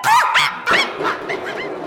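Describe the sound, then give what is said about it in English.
A dog sent out to chase someone off barks twice in quick succession, fairly loud, followed by a few softer, yelping barks trailing off, with no one speaking. “let's send the dog out. Rufus, go get him.”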